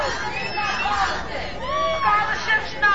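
A crowd of about 100 parents, students and educators holding signs and chanting at a rally outside Governor Tom Wolf's Philadelphia office, many voices blending into a loud, continuous babble with rising shouted tones. The noise holds steady throughout, with no single speaker standing out.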